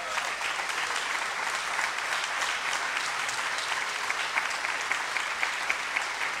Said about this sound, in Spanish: y vamos a pedir un aplauso para él.